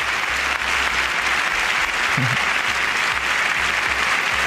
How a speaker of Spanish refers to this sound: El Teatro Campo Amor de Oviedo se sumió en un aplauso enorme cuando ella apareció.